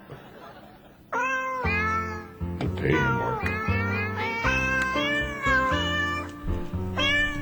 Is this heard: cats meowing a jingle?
yes